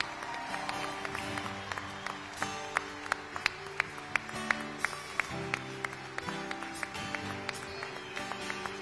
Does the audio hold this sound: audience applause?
yes